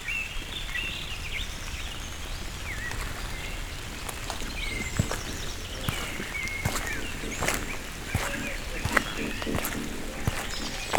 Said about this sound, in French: Route forestière du Cagir. Elle surplombe la vallée. Tout autour de moi, des sons, des gazouillis.